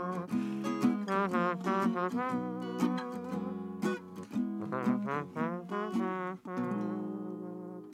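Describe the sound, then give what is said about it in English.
A voice mimics a trombone at the end of a sung song, with a run of sustained, buzzy brass-like notes, sliding and wavering in pitch, loud, carrying a short melodic phrase with no words. “I love the whistling, that little, and that little trombone sound that you get at the end there.”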